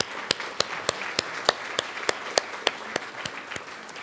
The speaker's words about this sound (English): So a round of applause for all of our winners, please.